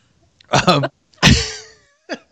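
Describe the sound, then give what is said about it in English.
An old man gives a few hoarse, throaty coughs: a rough voiced hack, a louder harsh burst that trails off, then a brief final cough. “Old man coughs.”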